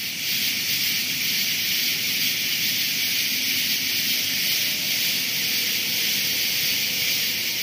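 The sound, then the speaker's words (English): A dense chorus of thousands of Cope's gray tree frogs, recorded a little before 9 p.m. on the Constitution Trail near the Conilink Amphitheater, merges into a steady, high, buzzing trill that holds evenly loud for the whole stretch, with no voices. “These frogs were recorded a little before 9 p.m. on the Constitution Trail near the Conilink Amphitheater.”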